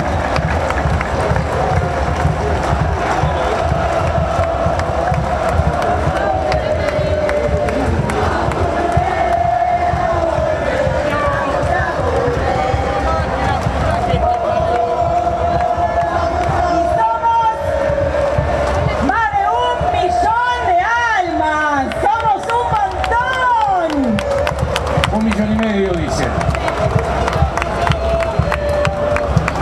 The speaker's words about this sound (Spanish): Compañeros Omar Núñez y Paola Barrientos en el escenario, fuerte el aplauso para ellos, por favor.